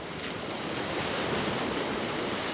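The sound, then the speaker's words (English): Pacific Ocean waves wrap around and crash against China Point, a rocky point jutting into Monterey Bay on the central coast of California. The surf makes a steady, full roar with wind blowing over it and no voices. “It's close enough to the Pacific Ocean so that the waves wrap around and really smack it.”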